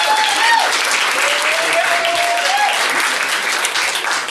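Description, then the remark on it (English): Steady, loud applause from an audience, dense overlapping claps filling the whole clip with a broad crackling wash, a few whoops and cheers rising above it. “Start clapping now for the one, the only,”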